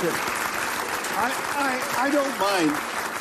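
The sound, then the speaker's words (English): An audience claps steadily in a dense, even wash of applause for William Shatner as his age, 93, is mentioned, with a few voices calling out over it as cheers rise and fall. “I don't mind that you say my age, you know, but when they clap...”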